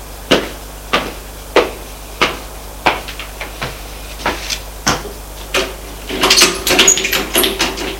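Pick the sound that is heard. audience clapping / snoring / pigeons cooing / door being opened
door being opened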